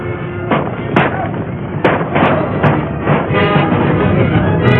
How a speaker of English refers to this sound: Guns roared whenever a townsman showed himself.